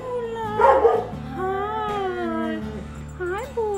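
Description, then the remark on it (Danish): Several dogs at an animal shelter in Rødovre, Denmark, howl together in a drawn-out, overlapping chorus, one starting and the others answering, their long wavering cries rising and falling, with a low steady rumble underneath throughout. “Hvis der er en, der først starter, så begynder de andre bare at svare. Det er en råbekor.”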